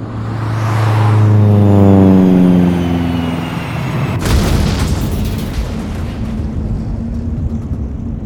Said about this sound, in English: Wait, I see the plane now. Something's wrong. Hey, it's going down. The plane is crashing.